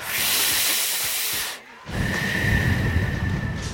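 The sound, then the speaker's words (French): At a boxing club during the warm-up before gloves go on, a long, loud, hissing deep inhale from smoking a joint of Mazar, a strong local cannabis, lasts about a second and a half, then after a brief pause comes a second rough, airy breath with a faint whistling edge. No talking. “On respire.”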